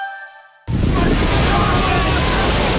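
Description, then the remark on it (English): After a brief fading tone, a loud rush of sea waves bursts in suddenly and keeps churning, a dense wash of surging water that fills the rest of the moment, heard as someone is about to jump into the sea on an army co-steering expedition. “Next to me, about to jump into the sea on an army co-steering expedition.”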